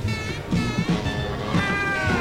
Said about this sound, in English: I hear some meowing. Or yes, this is the Scat Cat song